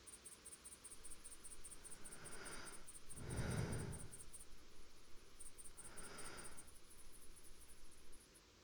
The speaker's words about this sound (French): Je pense à une vallée, une nuit d'été dans le sud de la France. Les grillons se bercent de leur musique.